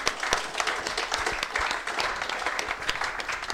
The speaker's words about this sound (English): And a round of applause for all our guests.